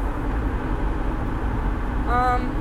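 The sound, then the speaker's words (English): Steady low rumble of road noise inside a moving car in Madison, Wisconsin, constant and fairly loud throughout, with a brief tonal hum or chime rising near the end. “We are recording this interview in the car in Madison, Wisconsin.”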